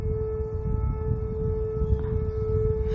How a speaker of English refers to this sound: But it helps me think through things and helps drown out the sound of this bloody siren.